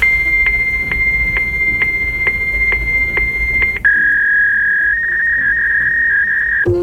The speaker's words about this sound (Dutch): Nou, heel veel mensen van mijn generatie kennen dit geluid. Dit is een fax.